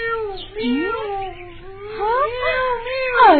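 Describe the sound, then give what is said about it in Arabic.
A cat cries and meows continuously in long, wavering, plaintive wails that rise and fall in pitch, fairly loud, with a low steady hum beneath. “هيا خذيها ولا تبكي. أرجوك يا قطة.”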